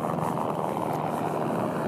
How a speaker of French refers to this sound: Puis soudain, le bruit d'un hélicoptère me fait lever la tête.